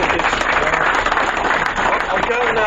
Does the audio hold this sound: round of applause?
yes